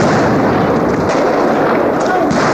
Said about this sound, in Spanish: Una baleadura tremendo, todos los del ejército están ahí atrás, masacrando a los campesinos y a los vecinos de Ovejuyo, Chasquipampa y Huilacota.